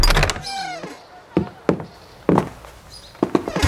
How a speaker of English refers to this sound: turned the heavy silver door handle.